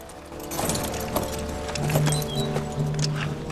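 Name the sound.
horses galloping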